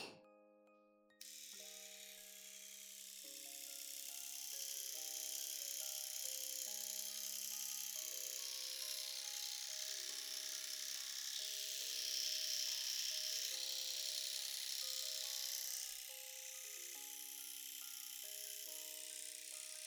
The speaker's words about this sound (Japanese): シェーバーすぐ終わらすけんね。